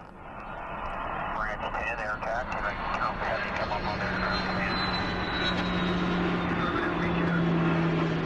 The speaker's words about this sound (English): they can often use a little help from above in the form of planes carrying water and fire retardant